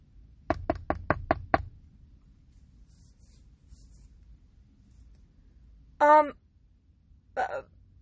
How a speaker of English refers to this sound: I can do this. Just knock on the door.